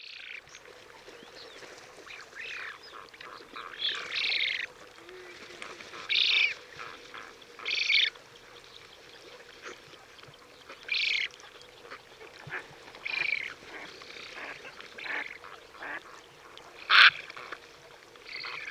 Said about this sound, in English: And here's another recording of Eurasian spoonbills, but this time in Mongolia.